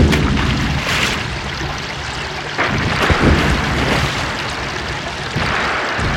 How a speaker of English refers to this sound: The Sambatan River. Water was splashing violently all over the place as giant boulders were shooting up into the heavens and then falling back down. And all around the Sambatan, the water was spritzing all over the place.